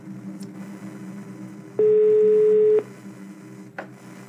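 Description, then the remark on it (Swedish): A single loud, steady telephone ringing tone sounds for about a second over a low background hum as a call is placed from an apartment in Bagarmossen to the emergency service SOS Alarm, then cuts off, with no one speaking. “ringer SOS Alarm och får prata med en operatör.”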